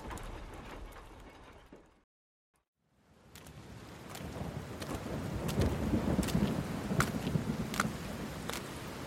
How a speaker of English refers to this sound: Poor kid. Never had a chance in this storm.